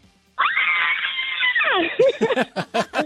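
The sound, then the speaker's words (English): A loud, sustained high-pitched yell of excitement from a caller who has won the Fast Five radio contest, breaking into a quick series of choppy, laughing shrieks as the celebration trails off. “It's acceptable to yell when you win Fast Five, so go ahead.”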